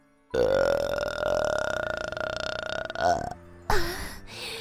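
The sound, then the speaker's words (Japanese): A long, loud, drawn-out burp rumbles for about three seconds, then a second shorter burp follows after a brief pause, both forceful with no talking. “遠慮せず私のゲップ、味わってくださいな。”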